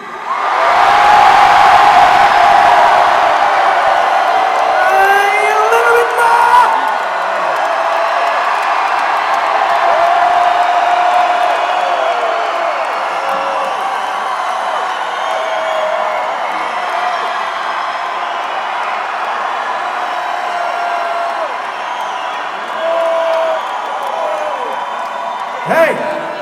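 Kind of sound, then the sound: crowd, audience screaming and cheering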